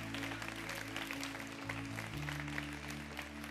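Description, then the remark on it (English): An audience claps for the Lord, a dense wash of many hands applauding at an even loudness throughout, over a sustained low organ-like tone that shifts pitch partway through. “Give the Lord a clap.”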